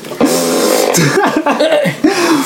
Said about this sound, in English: Let's just do the fart noises while we're saying this.